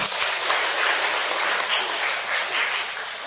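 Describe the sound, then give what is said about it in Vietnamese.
A crowd claps steadily in sustained applause, a dense, even patter of many hands that stays loud throughout with no voices on top. “Và các con cho một tràng pháo tay nữa.”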